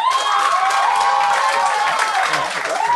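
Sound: audience applauding and cheering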